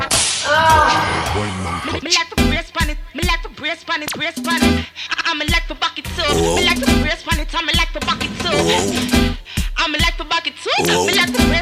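Loud, sharp whip cracks snap out repeatedly in a driving rhythm, layered over an upbeat music track with vocals, each crack bright.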